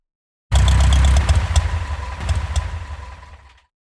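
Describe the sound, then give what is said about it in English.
A deep, heavy, massive engine rumbles at idle, loud, with a steady low throb and some mechanical clatter, settling slightly before cutting off. No voices. “What was left was the rumble of a massive engine.”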